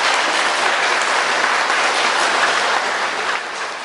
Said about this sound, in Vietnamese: Chúng ta hãy cho một tràng pháo tay về vấn đề này.